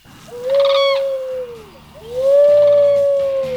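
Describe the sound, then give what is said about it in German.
Two long, wavering owl hoots imitated by a human voice as a signal to come to a castle, each a smooth rising-then-falling call lasting over a second, fairly loud, with a brief pause between them. “Und ihr kommt zum Schloss, wenn ihr eine Eule schreien hört. Meine Spezialität.”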